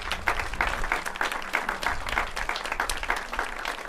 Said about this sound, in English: And ladies and gentlemen, please continue that applause for tonight's concert from the Burlington Municipal Band, brought to you by and underwritten by the Preston G. Hughes Foundation